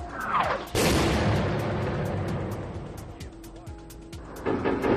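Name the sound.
gunfire shots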